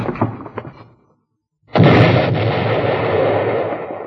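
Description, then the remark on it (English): A few scattered knocks, a moment of silence, then an explosion of dynamite sticks with a short fuse bursts in suddenly and loudly, its broad roaring rumble sustained without fading for the remaining seconds. “Dynamite sticks with a short fuse.”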